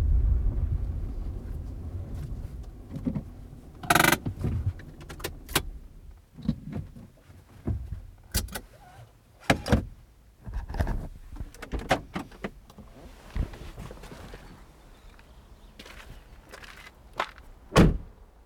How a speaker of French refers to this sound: On commence notre balade au parking, parce qu'il faut une voiture pour venir ici.